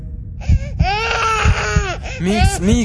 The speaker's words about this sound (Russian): Не надо плакать